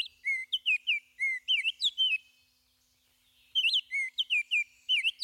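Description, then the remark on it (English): An oriole sings clear, flutelike whistled notes in two bursts of quick phrases separated by a short pause, fairly loud, with no other sounds around it. “The robin's insistent caroling awakens the oriole.”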